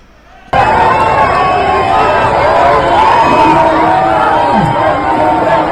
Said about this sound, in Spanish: desde las 6 de la tarde aproximadamente, había 1 millar de personas, según ha confirmado ya o según ha cifrado ya la delegación de gobierno, protestando de manera pacífica por ese genocidio en Gaza, con gritos como estos que podemos escuchar.